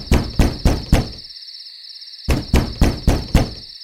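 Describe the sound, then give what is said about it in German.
Loud knocking on a door in the middle of the night, in two bursts: four sharp raps, a pause of about a second, then five more, over a steady high-pitched chirring like crickets. “Mitten in der Nacht klopfte es bei Onkel Blaumütze an der Türe. Richtig laut und immer wieder.”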